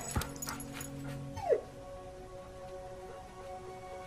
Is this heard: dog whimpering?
yes